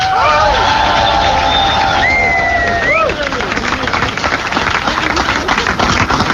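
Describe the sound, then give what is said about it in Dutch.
Loud, sustained applause from a large crowd with cheering and whistles, including a few rising whistle tones early on, continuing steadily for several seconds, applauding the Roparun runners, cyclists, cooks, physiotherapists and drivers. “Daar is even een heel hard applaus voor.”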